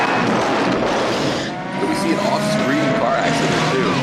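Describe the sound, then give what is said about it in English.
A car crash in a film scene starring Sly, where a car T-bones a cab off screen: a dense, loud roar of engine and crunching noise, followed by whining, squealing tire and motor tones that rise and bend over the noisy din. “He drives up and you hear another the crash.”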